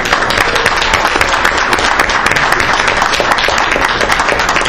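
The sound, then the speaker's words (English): A crowd applauds steadily for Shack members who stand up, a dense, even wash of many hands clapping at once, loud and sustained for several seconds with no voices above it. “Can you please rise up and quick round of applause?”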